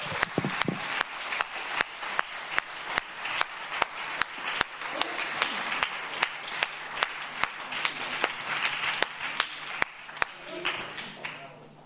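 A crowd at the closing of the Eurocall 2018 conference applauds steadily for several seconds, dense overlapping claps with sharp individual hand-claps standing out in an uneven rhythm, sustained at a moderate level throughout.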